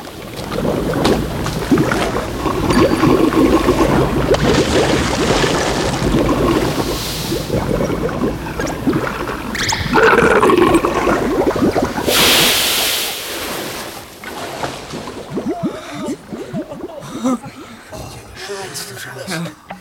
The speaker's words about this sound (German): Zitternd standen die drei Detektive und Miss Bennet auf dem Weg und sahen zu, wie die Hütte mit einem schmatzenden Geräusch endgültig im Sumpf versank.